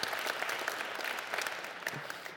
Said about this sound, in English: He's for real. All right, good job. Give it up for our shorties out there.